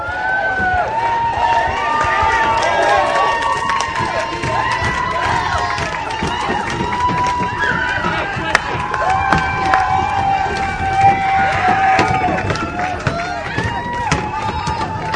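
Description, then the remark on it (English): A loud crowd of protesters against the NAB and media monopoly in San Francisco shouts and chants while people trying to get into the Moscone Center bang on the doors, sharp, irregular bangs and thuds cutting through the steady roar. “There are now people trying to get into the Moscone Center, banging on the doors.”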